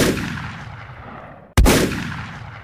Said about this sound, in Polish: Punktualnie o godzinie 17 papież nadjechał wówczas w otwartym jeszcze wtedy Papa Mobile. Starał się pozdrowić jak najwięcej pielgrzymów. Nagle padł strzał.